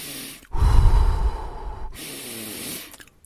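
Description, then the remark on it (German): A slow, deep diaphragm breath during a breathing exercise, hands resting on the belly: a long, loud airy inhale followed by a softer, steady exhale, with no talking. “Und auch jetzt versuchen wir mal nur in unsere Hände zu atmen.”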